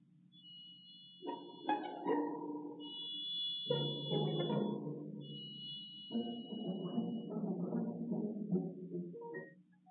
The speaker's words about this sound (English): Here's the triangle with its glittering sound.